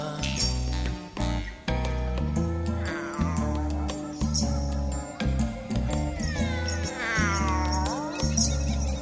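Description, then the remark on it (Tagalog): Two drawn-out meows from a cat basking in the sun, rising and falling in pitch, sound over a busy, steady musical backing with a strong low beat. “pusang nagpapaaraw, naliligong kalabaw, kambing nagmimirienda”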